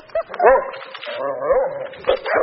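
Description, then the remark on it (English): Four dogs at a dog training and doggy daycare facility outside Reno bark and whimper, short yips and whiny cries overlapping in quick bursts, with a few louder barks punctuating the restless, continuous noise. “So your dogs have no discipline.”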